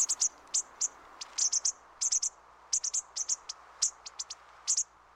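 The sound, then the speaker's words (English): A flock of bushtits trading soft, high-pitched contact calls: many brief chips and twitters in irregular clusters, over a faint steady background hiss with no voices. “Their quiet calling helps them keep track of one another.”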